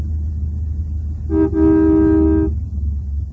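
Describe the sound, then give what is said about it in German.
A car horn blares in a traffic jam on the Autobahn just past Neustadt, a quick tap and then a longer sustained honk, over a steady low rumble of idling traffic. No one speaks. “Sowas nennt man gewöhnlich Stau.”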